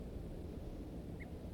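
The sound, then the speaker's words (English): A single short, faint alarm note from a wild male bird, heard once near the end over a steady low rumble of background noise; no talking. “One alarm note by the wild male.”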